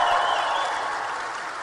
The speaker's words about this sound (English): Has anybody here ever seen the show Duck Dynasty? Let me hear from some applause if you've ever seen it.